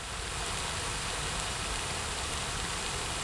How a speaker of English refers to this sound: We're here at the Rose Garden. I come around here almost daily, totally for the fountain.